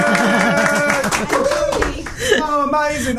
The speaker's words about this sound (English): I think you should all give yourself a round of applause for that. It's fabulous.